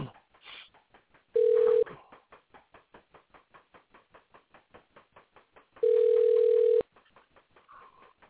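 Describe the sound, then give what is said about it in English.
A phone call rings out as a caller is called back: two long, steady mid-pitched ringback tones about four seconds apart, with a fast, regular clicking running underneath the whole time. No one speaks. “so let me see if I can give him a call back.”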